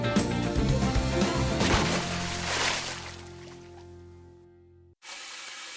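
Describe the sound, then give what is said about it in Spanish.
Running water being wasted gushes and splashes loudly for several seconds, as if from a tap left running, with steady tones beneath, then fades and cuts abruptly to a different steady rushing noise. “Este eres tú gastando agua.”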